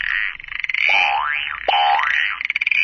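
A synthetic common frog sound effect from a toy sound book: a buzzy, warbling electronic croak with two rising-and-falling sweeps, loud, with no talking over it.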